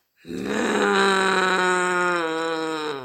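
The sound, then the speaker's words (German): A voice imitates an old dog's growl in a German story being read aloud: one long, low, rumbling snarl that starts abruptly, holds steady and loud for about three seconds, then eases slightly at the end. “Und als der alte Hund hörte, wie der böse Steinmarder die Hühner belog, da knurrte er gewaltig in seiner Ecke.”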